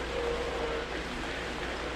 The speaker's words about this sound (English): The sound of the rain needs no translation, no explanation.